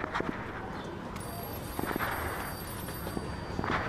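A faint, steady high-pitched telephone ring starts partway through and keeps sounding against a noisy indoor background, with scattered thumping footsteps and some soft movement.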